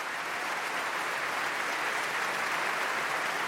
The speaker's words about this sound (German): mit Bruno de Lepeler, dem Solo-Cellisten der Berliner Philharmoniker, dem jetzt der Dirigent und das gesamte Orchester zuklatschen und zujubeln, wie auch das Publikum.